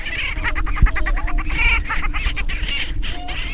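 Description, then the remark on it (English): A dense chorus of male grouse displaying at a lek on a cold prairie at sunrise, with rapid overlapping clucks, cackles and hooting notes from several birds at once, steady throughout, with no one talking. “The first rays of sunlight hit the cold prairie, shining bright orange on the rooster's puffed-out throat sacs.”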